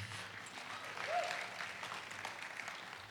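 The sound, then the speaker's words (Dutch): An audience applauds steadily to welcome a speaker coming to the front, a dense, even patter of many hands clapping that swells slightly in the middle and continues without pause, with no talking over it. “Zullen we Martin verwelkomen met applaus?”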